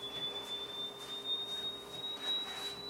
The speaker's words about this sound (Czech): Teďka bych si už ani nedoufal odhadnout, co je to za tón. Takhle vysoký tóny z pravidla v hudbě jako přímo nehrajete